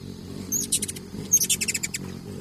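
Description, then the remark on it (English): Ruby-throated hummingbird chirps: two quick bursts of high, thin, rapid notes, each a string of several sharp ticks, over a low, steady background rumble. “The only hummingbird species that Audubon observed in nature was this ruby-throated hummingbird”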